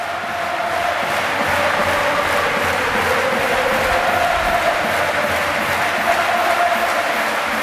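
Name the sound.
arena crowd ovation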